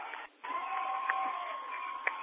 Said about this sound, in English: As the Onega crowd erupts around us.